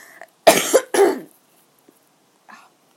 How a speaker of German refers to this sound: Einen Moment nochmal, ich versuche mich frei zu husten, da muss ich nicht die ganze Zeit mich räuspern.